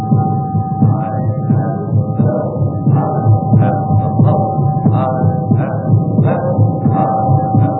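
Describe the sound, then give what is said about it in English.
A steady, rhythmic heartbeat thuds on and on at a moderate pace, each dull pulse rising out of a constant low droning hum. No voices are heard. “Only if you'll sit still sometimes and listen, its poor beat will become stronger, and you will hear it filling yourself, filling the world, ringing out at last, proud and clear and true.”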